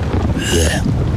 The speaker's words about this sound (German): Naja, Regen.